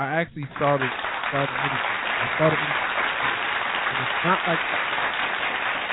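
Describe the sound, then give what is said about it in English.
Steady audience applause fills the whole stretch, a dense even patter of clapping with a few voices calling and talking over it. “That's worth an applause because.”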